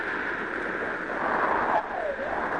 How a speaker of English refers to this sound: A great storm came up. Huge waves rose high and crashed against the small boat, and it began to fill with water.